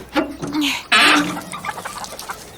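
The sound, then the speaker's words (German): Chickens cluck and squawk in an enclosure, a few sharp loud calls in the first second followed by softer, scattered clucking from several birds. “Dann lass uns mal nachgucken, ob die Hühner die Eier für den Osterhasen bemalen.”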